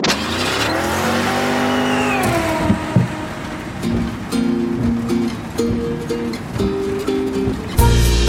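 A car engine revs hard and pulls away, tires squealing at the start, then shifts through gears with rising whines as it speeds off, loud with no voices.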